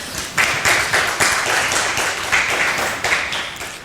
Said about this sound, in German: So, erstmal vielen herzlichen Dank für den Vortrag soweit. Wir sind natürlich noch nicht fertig, aber ihr dürft ja gerne schon mal einen großen Applaus geben.